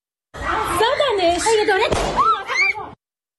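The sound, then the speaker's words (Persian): A single sharp pistol shot cracks out partway through, loud, fired at protesters in Kermanshah, while agitated voices shout and call continuously before and after it. “از کرمانشاه ویدیویی رسیده که تیراندازی به معترضین با سلاح کمری رو نشون میده و گزارش های هنوز تایید نشده حاکی از کشته شدن یک نفر در این تیراندازی هاست.”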